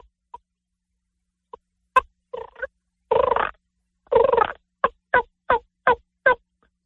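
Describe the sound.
Imitated hen turkey calls, a few sharp isolated clucks followed by raspy drawn-out notes and then a quick, evenly spaced run of five yelps, fairly loud with no talking.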